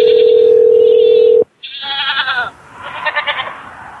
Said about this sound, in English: I got some goats.